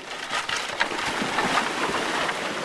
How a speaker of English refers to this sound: Let's cross the river. The boys each lift a girl into their arms or onto their backs and wade into the water. Then the handcarts take the plunge.